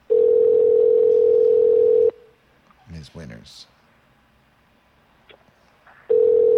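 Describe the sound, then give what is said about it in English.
A telephone line rings out on the caller's end: a loud, steady ringback tone for about two seconds, a long silent gap with a voice speaking briefly, then the tone starts again, unanswered. “Oh, God, they don't even have any answering machines. I mean, what, they still have dial phones?”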